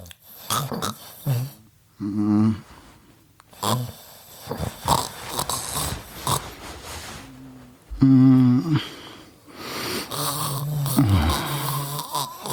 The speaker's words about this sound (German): Schatz, du schnarchst.